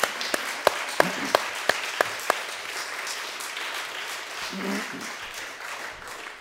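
An audience applauds, starting with a few sharp, evenly spaced claps standing out over a steady wash of crowd clapping that continues and fades gradually, fairly close and moderately loud.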